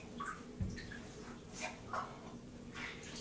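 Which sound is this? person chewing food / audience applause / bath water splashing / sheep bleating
bath water splashing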